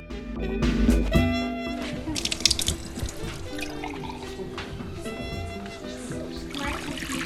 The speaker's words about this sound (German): Wasser zu gießen und das Salz einstreuen.